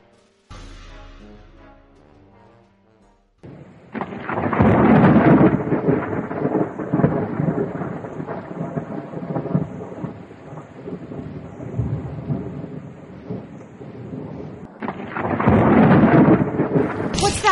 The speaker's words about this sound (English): Of course there'd be a storm tonight to add to the insanity.